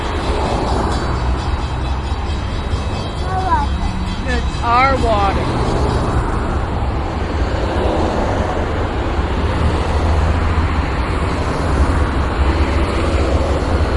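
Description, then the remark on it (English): A train rumbles past, a steady, loud roar of wheels and engine filling the whole stretch, while people talk briefly over the noise. “Train, Mars.”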